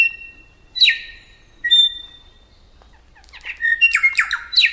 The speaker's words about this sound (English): Many birds sing together, especially in the morning. Pairs sing duets, and a pair may countersing with its neighbors, perhaps letting them know that this patch of land is taken. It all builds to a brilliant, ringing dawn chorus.